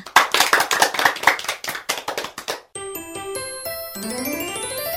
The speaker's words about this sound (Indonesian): Anak-anak telah menyanyikan lagu Dua Mata Saya dengan penuh semangat. Tepuk tangan untuk semua.